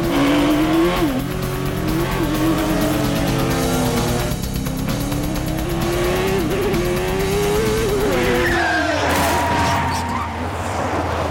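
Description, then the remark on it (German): Two go-kart engines buzz loudly and steadily on a kart track, their whining pitch rising and falling, then a brief high tire squeal as the karts brake to a stop and the engine note drops away near the end. “Die beiden Karts stoppten direkt vor uns.”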